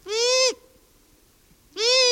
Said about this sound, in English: That's the long-eared owl.